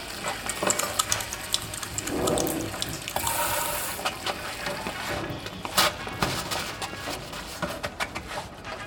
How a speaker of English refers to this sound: Okay, everyone wash your hands, and then we can get started, shall we?